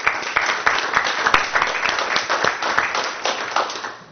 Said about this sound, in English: You can clap.